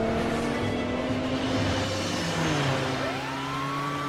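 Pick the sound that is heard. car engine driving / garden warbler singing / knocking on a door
car engine driving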